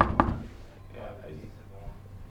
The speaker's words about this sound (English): Marked by a piece of paper with a handwritten number 23 nailed to the door. So we knocked.